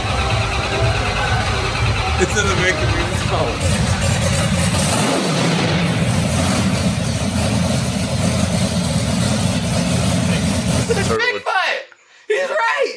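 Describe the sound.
A loud, heavy monster truck engine roars and revs steadily for about eleven seconds, rumbling, with a voice speaking over it before the sound abruptly cuts out.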